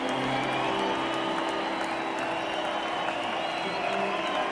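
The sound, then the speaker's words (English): A crowd cheers and shouts over steady applause, a dense, unbroken roar that holds at an even level for several seconds, with a few voices rising above the clapping. “There are shouts, there are cheers.”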